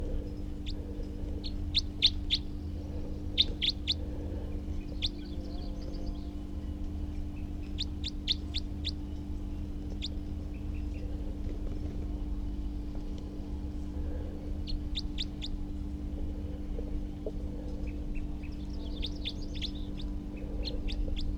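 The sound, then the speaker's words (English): A wild male bird calls repeatedly in short bursts of sharp, high chirps spaced a few seconds apart, over a steady low hum with no talking. “And here's that wild male again, who was calling before, and I have good recordings of.”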